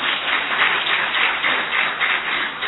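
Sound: audience applause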